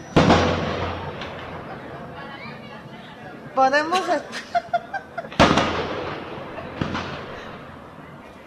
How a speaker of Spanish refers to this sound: Bueno, pues es que nos ponemos bien nerviosas con los cohetes.